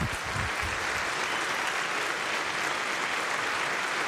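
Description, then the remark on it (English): A crowd claps steadily and loudly for volunteers coming up to the front, a dense wash of many hands sustained throughout with no voices standing out. “As per usual, as I call out the next groups, if you wear a colored T-shirt of the appropriate color, please come up front and take your applause.”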